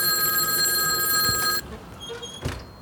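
A loud telephone bell rings steadily for over a second and a half, then cuts off abruptly, leaving quiet background noise and a brief clunk.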